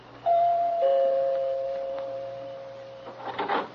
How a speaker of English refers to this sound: Back to the night I walked in the shadows of a flagstone path and stopped a moment to look at the name on the door before I pressed the bell.